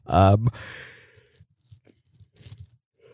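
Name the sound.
yawn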